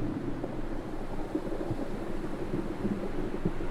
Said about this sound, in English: We're at Granite Bay on the Sunshine Coast, on Gubbi Gubbi Country. Listen to the rocks and waves rumbling together.